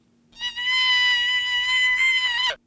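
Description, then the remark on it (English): A single deer call, raised in pitch with software from 170 hertz to an average of about 900 hertz and played through a speaker, holds a steady, buzzy, bleat-like tone for about two seconds, loud and alone over a faint low hum, then cuts off abruptly. “We're able to use software to increase the frequency of the pitch without changing any other acoustic traits in the call.”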